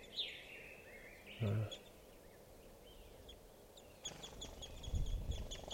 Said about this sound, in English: I'm right underneath the tree that a bunch of crossbills are in, and they're coming down for water. And I'm right next to some birds now, and they're in a small tree.